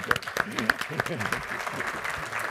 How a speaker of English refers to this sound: Yeah, but before I start, let's just have a round of applause for these guys.